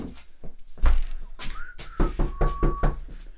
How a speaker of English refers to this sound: Hold on, let me go get him. I'll go open the door. All right, hold on.